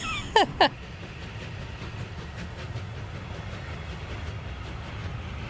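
A small museum train at the railway museum in Kristianstad rolls along its rails: two short shrill squeals at the start, then a steady low rumble with faint rhythmic clatter continuing throughout, with no one talking.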